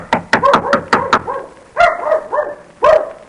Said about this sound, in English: Oh, that sounds like Mickey barking. Oh, no, but it couldn't be.